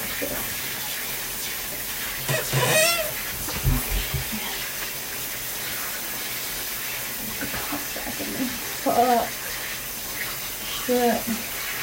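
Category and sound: household object, shower water running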